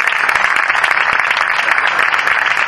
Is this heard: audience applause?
yes